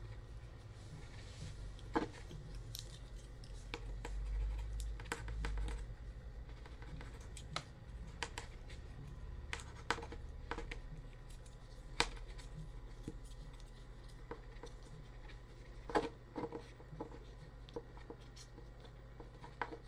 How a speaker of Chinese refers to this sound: 哼，你就等着吧。把纸张试卷写完，慢慢等吧。